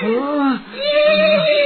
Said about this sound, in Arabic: وبينما هو يمشي فإذا به يسمع صوت حصان من بعيد. ماذا أصاب ذلك الحصان؟